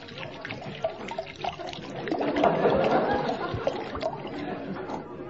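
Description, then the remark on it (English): A large measure of brandy glugs and trickles from a bottle into a glass, steady, growing fuller midway through before easing off, with no voices over it. “This time, just give me the bottle. I'll pour it myself.”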